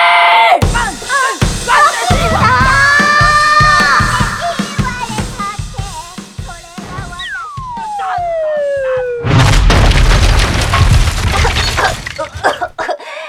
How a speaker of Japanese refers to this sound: いい加減普通に起こしてよ。朝からバズーカぶっぱなとか何考えてるのよ。